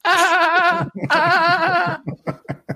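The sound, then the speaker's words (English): A person imitates a dolphin with two long, wavering, high-pitched warbling cries, each about a second, followed by a few short choppy squeaks and clicks. It comes across as a strained, bleat-like squeal. “That was a hungry dolphin. They malnourished. I gotta work on my dolphin noises.”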